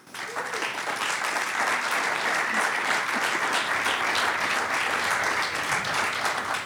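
An audience at a live music event claps steadily for a musical artist being introduced, a dense, even wash of many hands that holds at a constant loudness throughout without rising or fading, with no voices standing out.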